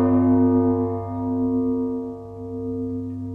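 A deep, resonant bell tone rings out in a cave after the bell is bumped by someone's shoulder, its rich low hum sustaining steadily and fading only slightly over a few seconds, with no voices present.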